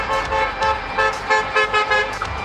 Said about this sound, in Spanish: Ya se puede apreciar gran cantidad de bocinazos desde distintos puntos. Gente que ha salido con banderas chilenas a celebrar. Están dando vueltas por acá y con bastantes bocinazos celebrando el triunfo de José Antonio Kast.